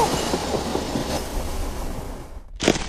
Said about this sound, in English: I'll jump on the next train that passes under this bridge and hang on for dear life.